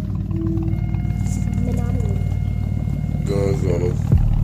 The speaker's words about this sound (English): Yo, no, get in here, get in there so I can get an exhaust clip up. Push it up, push it.